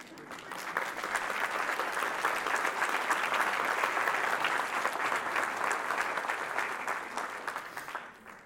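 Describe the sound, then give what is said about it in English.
A crowd bursts into sustained applause as a woman in the audience stands up, a dense, steady wash of many hands clapping that holds for several seconds before tapering off at the end. No one speaks over it. “I let her do that so you could clap and I could compose myself.”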